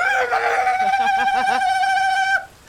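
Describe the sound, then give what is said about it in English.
A single loud, shrill war cry scream held for over two seconds, wavering slightly in pitch like a crowing yell, cutting off abruptly. “Just a crazy war cry.”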